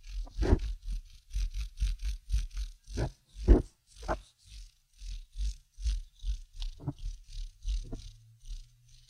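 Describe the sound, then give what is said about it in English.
A regular wooden pencil with flat, non-rolling sides, such as a Dixon Ticonderoga, rubbed quickly back and forth between the palms, making a steady rhythmic scratchy rumble of about twenty-five strokes that resembles a cat's purr, with no talking. “if you take a regular pencil, like one of those Dixon Ticonderogas, you know, that has like the non-rolly sides, and you rub it between your palms.”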